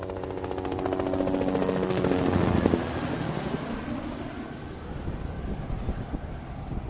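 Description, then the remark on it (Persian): Rotor blades of helicopters whir with a steady rhythmic chop as the helicopters arrive to land on a runway, building louder over the first few seconds before easing into a broad, continuous engine drone that fades slightly at the end. “بالاخره صدای واپ واپی که از چرخیدن پره های بالگرد ها بلند می شود به گوش رسید.”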